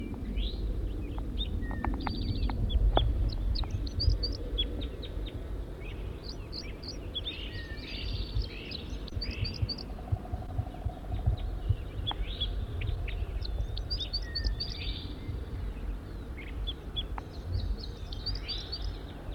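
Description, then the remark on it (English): A wild male bird, recorded from close range, calls repeatedly, giving bursts of short, high-pitched chirps and trills throughout, over a steady low rumbling background. “Wild bird, stop. It's recording the wild male again from close range.”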